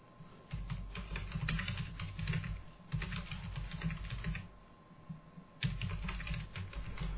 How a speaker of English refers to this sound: Oh, maybe I should have just waited for you to finish typing.